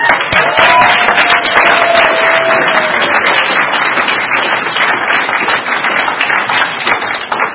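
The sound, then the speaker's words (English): An audience at a recovery meeting applauds steadily and loudly for several seconds to welcome a speaker, a dense wash of many hands clapping with no speech over it, tapering slightly toward the end. “Everybody give her a real warm round of applause.”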